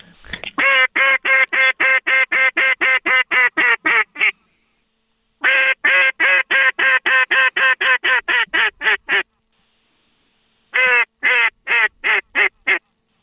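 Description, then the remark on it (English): A duck call blown loud, sounding three rapid runs of raspy quacks that descend in pitch, each run a dozen or so notes, separated by brief pauses. “Where's my duck call?”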